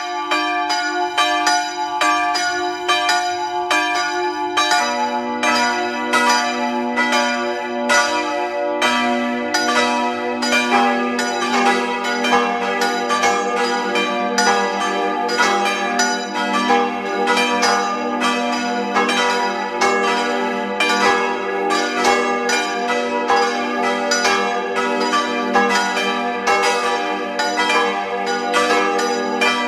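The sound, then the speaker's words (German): Several bells of the parish church Maria im Elend in Tattendorf, Lower Austria, ring together at 12 noon in a full, continuous peal, their overlapping tones rich and sustained, with a lower bell joining a few seconds in. No voices, just the steady, resonant ringing throughout. “Sie hören die Glocken der Pfarrkirche Maria im Elend in Tattendorf, Niederösterreich.”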